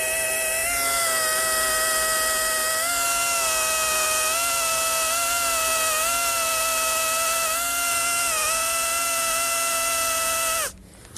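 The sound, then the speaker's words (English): A dental polishing tool with paste on it buzzes steadily on teeth for about ten seconds as they are cleaned and polished, a high, motorized whine with slight dips in pitch, then cuts off abruptly. No voices are heard. “And of course, when I'm finished looking at your teeth, it's time to go ahead and clean them and polish them and make them nice and shiny.”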